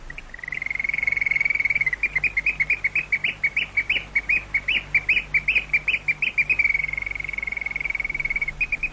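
nightingale singing

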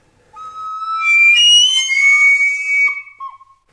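hunting whistle call

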